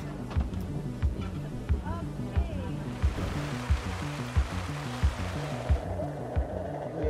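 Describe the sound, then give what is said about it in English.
Rough water rushes steadily, with regular heavy thuds like a hull slapping into strong waves and current, and a broad surging wash swelling louder partway through, on a rainy day while travelling by river to reach an area accessible only by water. “The only option is to come here via the river, and today it was raining and the waves were strong.”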